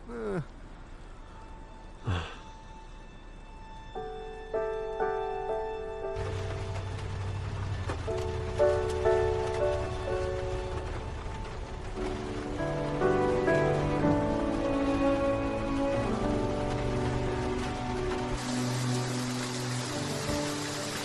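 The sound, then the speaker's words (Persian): Heavy rain pours down in a dense, continuous hiss that thickens after a few seconds and holds steady, with soft sustained musical tones layered over it and a brief breathy sound near the start. “با چتر بریم، بارون شدیده.”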